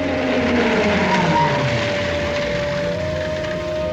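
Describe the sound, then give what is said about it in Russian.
A truck engine roars steadily while tires squeal as it turns sharply in front of the porch of a long wooden barracks housing a medical unit, the drone holding loud and continuous from start to finish with no voices. “— Бричкин выехал на площадь, где стояли крытые брезентом грузовики, лихо развернулся перед крыльцом длинного деревянного барака и заглушил мотор.”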